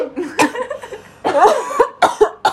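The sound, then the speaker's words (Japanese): Several sharp, harsh coughs burst out in uneven clusters, with short raspy breaths and throaty gasps filling the gaps between them. “三分の二が咳くしゃみで。”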